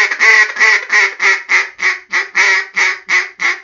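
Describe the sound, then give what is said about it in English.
A rapid run of about a dozen loud, nasal duck-like quacks in a steady rhythm, with nothing else around them. “Real ham radios don't sound like Donald Duck.”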